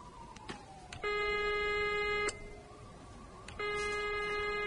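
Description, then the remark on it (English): A doctor's telephone rings twice in a film scene about Margaret Thatcher, each ring a bright, buzzy electronic trill lasting just over a second, separated by a pause. A few faint clicks come before the first ring, and no one speaks. “the doctor's phone begins to ring.”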